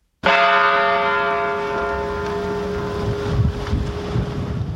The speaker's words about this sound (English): The bells this morning in Newtown, Connecticut, 26 times they rang in remembrance of lives lost.